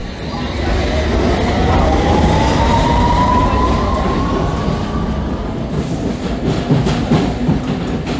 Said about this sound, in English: We're now travelling on my favourite line, the Victoria Line. The light blue line. It runs between Brixton in South London and Walthamstow Central in the northeast via the West End